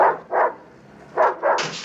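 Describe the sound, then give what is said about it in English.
A drug-sniffing dog barks four times in two quick pairs as it heads to a van outside a building, loud, with a short pause between the pairs and a steady hiss of background noise at the end. No one speaks. “As the nuns are led into the building, the drug dog beelines to the van.”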